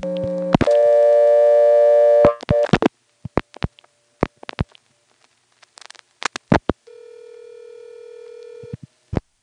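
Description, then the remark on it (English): On a telephone switching system, a steady dial tone gives way to rapid clicking pulses as 112 is dialed, followed by a flat, even tone and a final click. No one speaks. “Starting fresh now, let's try dialing 112.”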